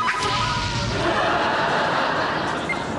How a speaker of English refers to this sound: Hang on, flaming arrow.